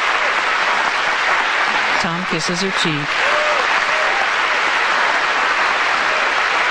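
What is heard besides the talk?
audience applause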